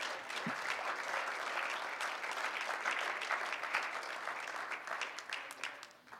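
audience clapping hands

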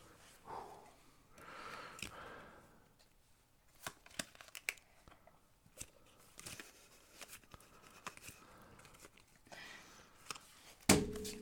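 shuffling playing cards

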